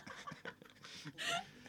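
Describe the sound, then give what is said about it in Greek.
Heavy, breathy panting, a quick series of ragged huffs and gasps that edge toward a chuckle, with no words spoken. “Έλα, πάμε πάλι, Ανάσες.”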